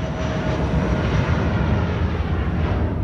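airplane engine in flight

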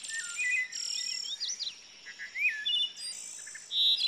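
wood thrush song

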